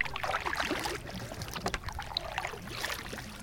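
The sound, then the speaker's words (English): Paddle strokes dip and splash through the water of Dal Lake in Kashmir from a shikara, a small wooden local rowing boat, with gentle lapping and a soft breeze, no voices. “It was slightly unreal, but in the midst of all this turmoil, I slipped away for one of the more tranquil experiences that Kashmir has to offer, a trip on Dal Lake in one of the local rowing boats known as a shikara.”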